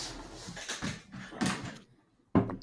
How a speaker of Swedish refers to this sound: Nu knackar det. Ja, häng kvar lite.